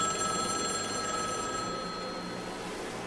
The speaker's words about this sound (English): And just as I put the tape into the slot, the phone started ringing again.